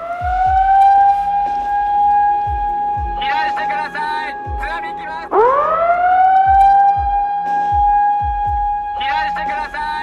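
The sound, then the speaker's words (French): A loud Japanese tsunami warning siren wails steadily, drops away and winds back up to its sustained tone, with a voice, likely a loudspeaker announcement, breaking in over it at times. The alert sounds three minutes after an earthquake, covering 670 km of Japan's Pacific coast. “Cette sirène, tous les Japonais la connaissent. 3 minutes après le tremblement de terre, l'alerte au raz-de-marée lancée.”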